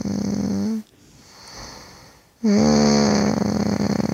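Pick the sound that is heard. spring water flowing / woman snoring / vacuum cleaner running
woman snoring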